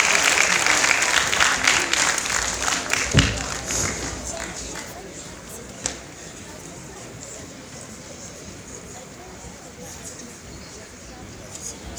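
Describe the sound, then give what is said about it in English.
An audience at an Academy School event breaks into dense, steady clapping to welcome the next speaker, loud at first, then tapering off over the following seconds into a softer, thinning patter, with a few sharp thuds and murmuring voices underneath. “Oui, on applaudit.”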